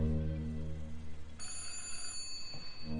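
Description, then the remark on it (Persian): A low, steady hum gives way after a moment to a bright, high-pitched telephone ring that holds for over a second before fading, with no voices. “سال هاست که این صدا رو نشنیدم. فکر کنم از تلفنه.”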